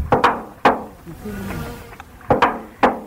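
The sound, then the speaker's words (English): A duck mimics a creaking, closing door, a sound it learned while being taken care of in a home: loud, sharp wooden knocks in quick pairs, separated by a soft, low creaking drone. No one speaks. “And it is a sound of a closing door that the duck learnt while being taken care of in a home.”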